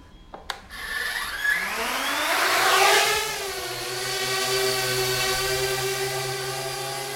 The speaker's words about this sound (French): Donc dès que la lentille est verte ici, je suis connecté au drone. Et à partir de ce moment-là, j'ai plus qu'à appuyer sur ce bouton qui est le bouton de décollage pour faire décoller le drone de manière automatique.